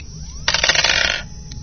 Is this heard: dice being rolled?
yes